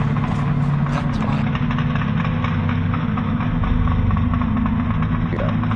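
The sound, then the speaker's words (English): A car engine with no one at the wheel runs steadily at idle, a loud, continuous low rumble with a faint vibrating hum that holds unchanged throughout. “You can't follow me. You're only a car. My car. Stop. There's no one at the wheel.”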